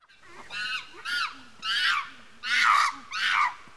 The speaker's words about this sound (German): Ja, Affen. Affen, ja, sehr gut. Geräusch hat Tina schon mal gut erkannt.